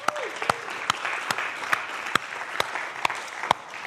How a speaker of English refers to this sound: Yeah, still 55. 55 years. A clap.